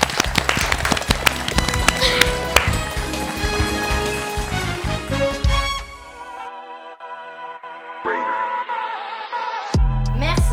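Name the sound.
applause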